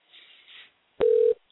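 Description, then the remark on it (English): Faint line hiss gives way to one loud, steady, mid-pitched telephone ring tone lasting about a third of a second, with clicks at its start and end, heard over the phone line as a call is placed. No one speaks. “You should be able to hear the phone ringing just as I.”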